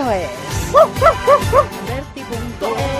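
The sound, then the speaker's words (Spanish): A small dog gives four quick, bright, high-pitched barks in an excited burst, loud, with voices talking underneath. “Entra ya y ponte igual de contento que nuestro perrito en Berti.”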